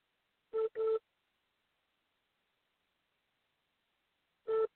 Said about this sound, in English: You could press the 1 button on your phone, and I'll open the mic, and you can pray.